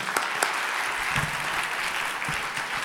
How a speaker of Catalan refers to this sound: Som a l'Espai Vital de l'Hospitalet de Llobregat i gravem aquest podcast en públic. O sigui que a veure si es nota el caliu del públic. Si us plau, un aplaudiment.